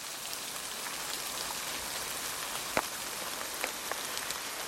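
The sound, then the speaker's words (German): Steady rain pours down in a dense, hissing wash, with a few sharper drips and taps standing out near the end. No voices are heard. “Sie schweben zwischen Schwerkraft und Luftströmungen, bis die Schwerkraft gewinnt.”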